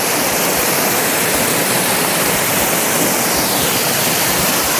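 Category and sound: nature, rushing floodwater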